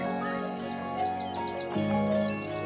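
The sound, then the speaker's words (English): Quick, repeated bird chirps flutter high over a steady, sustained tonal drone, a run of bright calls close together that fades into softer twittering. “On the surface, birdsong is simple. It's a pleasing wash of sound that just happens in the background.”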